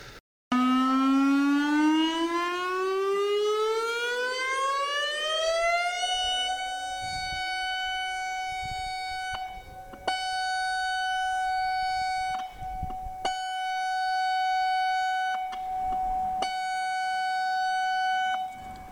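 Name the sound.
civil defense siren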